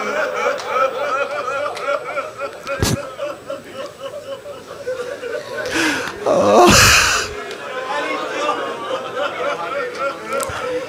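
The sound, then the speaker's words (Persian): An audience weeping aloud in response to a sermon about Imam Ali (Amir al-Momenin): a dense mass of sobbing and wailing voices that swells into a louder surge of cries midway, with sharp gasps breaking through. “این حرفی که من زدم، این گریه ای که بلند شد، همه تون پشت در خونه امیرالمومنین بودید.”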